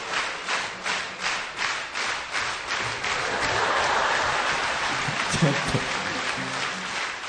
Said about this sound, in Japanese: この状況を見てくれ。何の拍手か知ってる？ アンコール。